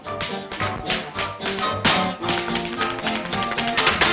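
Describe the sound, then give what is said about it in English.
Rapid, crisp tap-dance steps of a man's loose-legged tap routine clatter on a parquet floor in quick syncopated bursts over a steady backing of music, the sharp heel and toe strikes staying loud and bright throughout. “His rapid feet occasionally cross over each other, and his snappily swaying body pivots toward the couch where Hardwick watches.”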